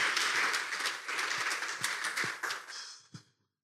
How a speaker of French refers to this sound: Et c'est pourquoi nous sommes en train d'inviter l'homme de Dieu de passer à ces lieux pour qu'il puisse nous dire ce que Dieu a mis à son cœur. Nous allons l'encourager par des acclamations.